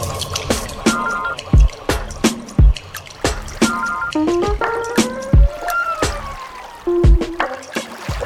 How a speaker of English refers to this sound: As little water drops dripping, distillate for humans.